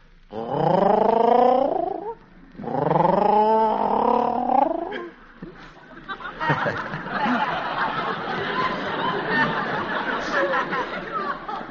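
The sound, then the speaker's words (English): A person voices two low, wavering cooing whistles in imitation of a lovebird, each lasting about two seconds, followed by a longer stretch of rough, breathy snickering noise. “No, they whistle. A sort of low, cooing whistle, like this.”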